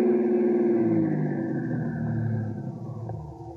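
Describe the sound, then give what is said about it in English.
A car engine hums steadily, its pitch sliding downward as the car slows and stops about half a block away from a place called El Aguila, loud with no voices. “Let's stop about a half a block away.”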